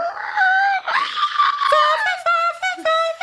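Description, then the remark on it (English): A voice imitates a car, starting with a loud, buzzing engine-like drone that climbs in pitch, then breaking into several short, sharp honks like a horn. “That was me trying to honk somebody out of the way so the car didn't crash.”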